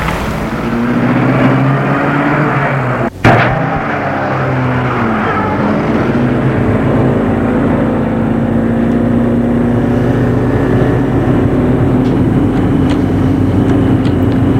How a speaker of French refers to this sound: Le chauffeur met en route la voiture.